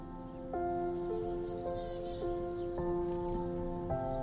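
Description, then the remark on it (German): Several winter birds chirp in a snow-covered winter forest, in short, high, scattered bursts over a steady, soft drone of sustained musical tones that shift pitch every second or so. No one speaks. “Du hörst einige Wintervögel zwitschern, während du anfängst, durch den Schnee zu stapfen und dir dabei den Winterwunderwald anzuschauen.”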